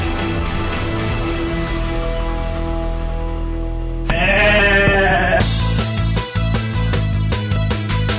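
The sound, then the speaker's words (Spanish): A goat gives a single loud, quavering bleat lasting about a second, set between sustained tonal sounds before it and a busy, rhythmic stretch after. No one speaks. “Que dejes a la cabra en paz”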